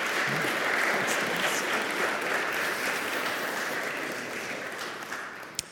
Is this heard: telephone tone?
no